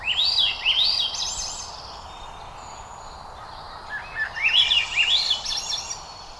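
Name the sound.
swainson's thrush song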